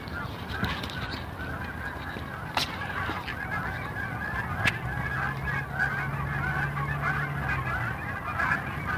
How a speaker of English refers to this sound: I'm standing still because there's a huge, well, huge, it's like 50 geese.